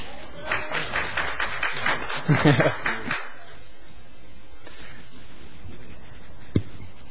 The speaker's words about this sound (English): So, well done to you all. Round of applause.